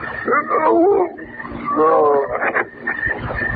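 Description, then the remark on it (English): A wild, wolf-like beast snarls and roars in rough, drawn-out bursts, loud, its wavering growls rising and falling over a few seconds; the animal is attacking a man on a dark street at night. “There's an animal up there. It's tearing him to pieces.”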